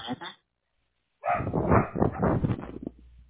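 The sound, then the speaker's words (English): A dog barks: one short bark, a brief pause, then a longer run of rough, overlapping barks and yelps lasting about two seconds. “Your dog is barking.”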